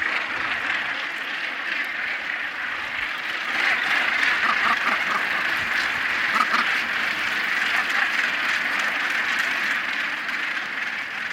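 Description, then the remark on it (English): A noisy seabird colony at the top of the Bass Rock: a dense, unbroken wall of harsh, overlapping squawks and cackles from countless birds, loud and holding steady throughout with no voices. “Just getting onto the Bass Rock amongst all those birds.”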